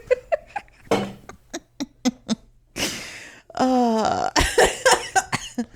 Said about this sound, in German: Oh, vielleicht muss ich immer noch manchmal husten zwischendurch. Hm. Ist der Raucher husten? It's still not gone.